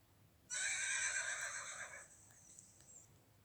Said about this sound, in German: Da hörte sie es. Es war leise und weit entfernt, aber dieses Geräusch würde sie überall kennen. Ein Wiehern.